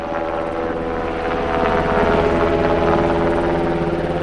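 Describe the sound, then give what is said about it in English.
A Japanese self-defense forces helicopter drones steadily over Itate, Japan, its rotor thumping in a fast, even rhythm over a low engine hum, growing slightly louder midway as it passes overhead, ferrying people in and out of the nuclear exclusion zone. “Helicopters and green military transport trucks ferry people in and out of the exclusion zone.”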